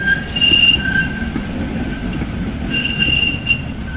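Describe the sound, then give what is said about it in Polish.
A tram rumbles past, its wheels letting out thin, sustained metallic squeals in two bursts over a steady low rolling roar. No one speaks. “Znam ten wiatr, znam te odgłosy samochodów, znam te odgłosy tramwaji.”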